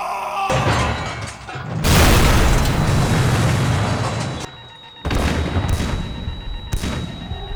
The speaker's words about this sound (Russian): И со всего размаху двери с петель на щепки разлетелись.